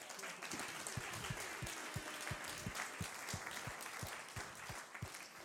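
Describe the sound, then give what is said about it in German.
A church audience applauds steadily for several seconds for those visiting on holiday, many hands clapping at once in a dense, even wash of sound with a few sharper individual claps standing out. “Hey, lass uns Ihnen einen Applaus geben.”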